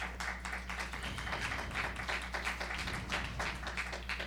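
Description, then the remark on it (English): A church audience claps together in a steady, dense patter of many hands that holds evenly for several seconds, with no voices speaking over it and a low hum underneath. “You can all clap.”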